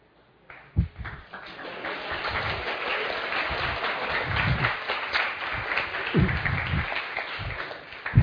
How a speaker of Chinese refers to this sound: 谢谢你们稀稀落落的掌声。